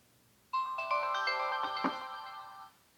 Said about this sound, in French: Le bouton rond de mise en marche et de lecture, situé au centre de la rangée inférieure, permet d'allumer et d'éteindre le lecteur. Je vais maintenir ce bouton enfoncé pendant 3 secondes jusqu'à ce que j'entende un carillon mélodique.